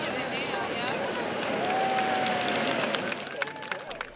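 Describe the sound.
An outdoor crowd of over 100 people at Point Pleasant Beach cheers and claps steadily as rehabilitated sea turtles are released back into the ocean, with scattered voices calling out over a dense wash of noise that holds level for a few seconds before thinning slightly at the end.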